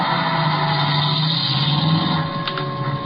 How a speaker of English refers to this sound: But when I peeked over the top of the stairs, he was in his car and going.